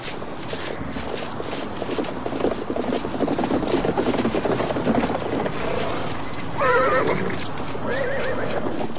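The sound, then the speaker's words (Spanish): A horse whinnies loudly near the end, with a second, shorter neigh after it, over a steady, busy clatter of hooves clip-clopping along with some background rumble. “Doctor, los caballos me provocan angustia cuando pienso que las pobres bestias tienen que ir a pie.”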